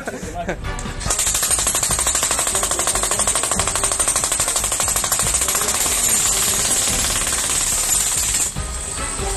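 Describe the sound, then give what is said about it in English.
A loud jackhammer, used with construction workers to make a hole to catch a snake, pounds in a rapid, steady rhythm for several seconds after a brief quieter start, then cuts off near the end. “We've got a jackhammer. That's gonna be perfect.”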